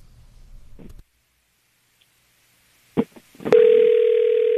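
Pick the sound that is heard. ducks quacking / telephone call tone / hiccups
telephone call tone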